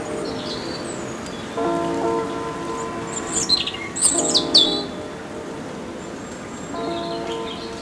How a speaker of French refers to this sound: chant de l'oiseau qui vous rassure, ou cette douce brise légère qui s'écoule.